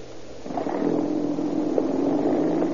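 A police patrol car's engine starts up and revs, then settles into a steady drone as the car pulls away. No voices are heard.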